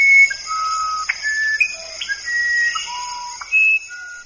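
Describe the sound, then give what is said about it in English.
A musical wren from Peru sings a series of clear, pure whistled notes at varying pitches, some sliding up or down, in a slow melodic sequence over a steady high insect-like hiss, with no talking. “His collection includes such unusual voices as mating gibbons at sunrise in Indonesia and the whistle-like song of the musical wren from Peru.”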